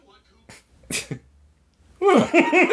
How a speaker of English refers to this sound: That sneeze that's caught.